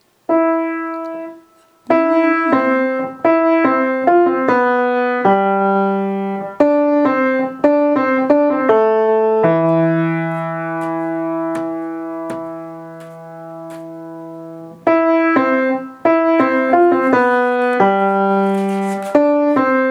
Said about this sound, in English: Then the next section is just humming, top of 7. And it's very slow.